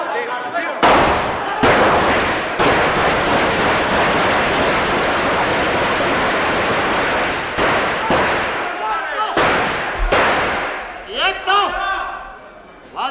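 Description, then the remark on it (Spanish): Loud, sustained bursts of gunfire from Civil Guards in the Spanish parliament chamber during the 23-F coup attempt, separated by brief pauses, with raised voices audible as the shooting tapers off near the end. “Automáticamente serían los disparos.”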